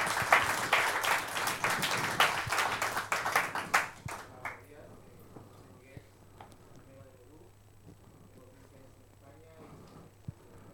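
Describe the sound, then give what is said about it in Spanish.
A church audience applauds to welcome a visitor from Peru, a dense burst of clapping for about four seconds, then the clapping fades out, leaving quieter voices talking. “Un aplauso para él, bienvenido.”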